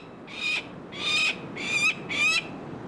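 Falcon chicks in a nest box on a ledge scream in four harsh, high-pitched bursts, each about half a second long and evenly spaced, fairly loud over a faint background hiss, with no talking, as they are handled for banding.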